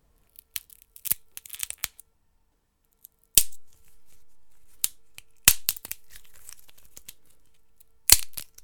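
Sharp cracks and snaps of small sticks and matchsticks being broken and twisted in a studio as foley for a tree being felled, in scattered bursts with crackly twisting and crinkling in between, a few loud splintering breaks standing out; no voices.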